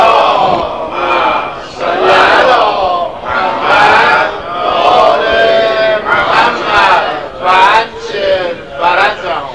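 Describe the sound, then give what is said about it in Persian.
A crowd chants a salawat blessing in unison, many voices rising and falling together in loud, rhythmic bursts of collective recitation with short pauses between phrases. “امشب تو همینجا کافیه صلواتی برمت کنید.”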